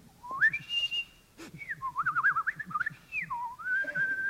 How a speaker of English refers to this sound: I've been up the main street whistling the secret tunes.